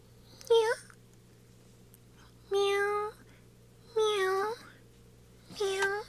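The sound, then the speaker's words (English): A male cat in a store meows four times, spaced a second or two apart, each call clear and drawn out over a faint steady hum. The meows are fairly loud. “Here we have only one cat boy in today.”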